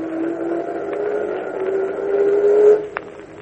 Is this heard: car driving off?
yes